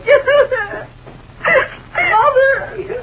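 A girl cries and whimpers in short, wavering sobs, breaking into three bursts with a brief pause between, fairly loud with a high, quivering pitch.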